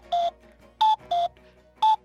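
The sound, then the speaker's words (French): A cuckoo calls alone, clear, its repeated two-note hoot dropping from a higher pitch to a lower one with short pauses between the notes. “Ou bien, par exemple, après le coucou.”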